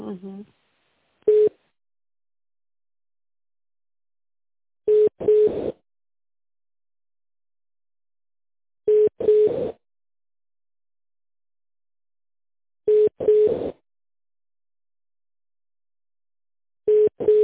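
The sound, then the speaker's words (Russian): A telephone ringback tone repeats in steady cycles while a call is being connected to a manager, each a pair of short beeps at one mid pitch, spaced about four seconds apart, with a brief murmur of voice at the very start. “Давайте попробую соединиться с менеджером, который работает с этой компанией.”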